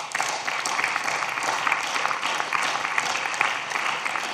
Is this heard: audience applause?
yes